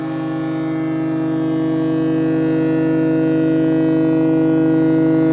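A departing ferry's horn blows one long, loud, deep blast that holds steady and swells slightly over several seconds, with the low rumble of its diesel engines underneath and no voices.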